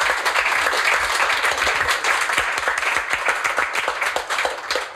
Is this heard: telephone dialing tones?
no